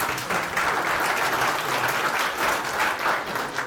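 An audience applauds steadily, welcoming a speaker, a Postgres core team member, before his talk on building open source teams; a dense, even wash of many hands clapping at a sustained loudness for several seconds with no voices breaking through.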